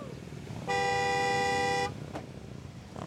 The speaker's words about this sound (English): Bikers are honking and yelling at a gaggle of bored-looking burros standing in the middle of the highway near Oatman in northern Arizona.